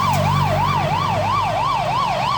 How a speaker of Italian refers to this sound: Sentimmo arrivare le sirene dei pompieri delle ambulanze.